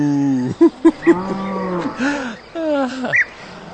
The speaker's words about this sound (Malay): Und die Kuh macht Mu. Mu. Mu.